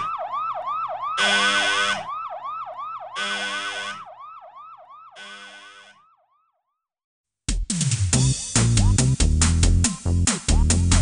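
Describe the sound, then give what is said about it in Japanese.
A loud, ominous alarm siren wails in rapid rising sweeps with pulsing bursts for about six seconds, then cuts to silence before a busy burst of music or other sound begins; an alarm in the Astro Radio detective agency drama. “不吉に鳴り響く警報音、緊迫の後半はこの後すぐにお届けしますが、その前にちょっとブレイクタイム、お知らせです。”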